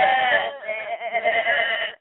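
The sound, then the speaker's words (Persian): A voice imitates a sheep's bleat: one drawn-out, wavering baa of about two seconds, close and fairly loud, with no other sounds around it. “گوسفند گفتن به.”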